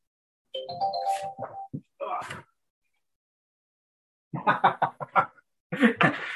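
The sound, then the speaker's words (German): A mobile phone rings with a short electronic chime melody. After a brief silence, voices follow in quick bursts. “Hoffe, dass das nicht gleich wieder klingelt.”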